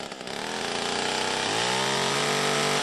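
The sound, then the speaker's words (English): A chainsaw roars loudly and steadily, its engine pitch shifting as it bites into wood, taking down trees splintered by a tornado, with a dense buzzing tone that holds throughout and no voices. “Trees splintered by the storm had to be taken down with chainsaws.”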